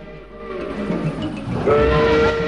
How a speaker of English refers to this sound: Children wave and shout on the tracks. The train approaches.